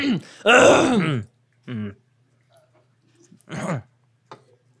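coughing and throat clearing

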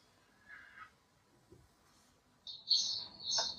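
birds chirping

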